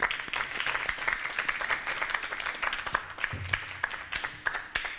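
Sustained applause from an audience, dense overlapping hand claps filling the room at a steady, fairly loud level for several seconds with no talking over it.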